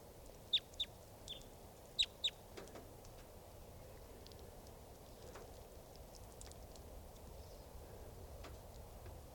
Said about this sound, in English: And these are the wild birds.